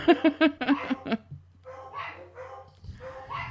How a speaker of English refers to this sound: I guess that sounds bad with barking dogs in the background, but somebody showed up. It's probably the UPS guy.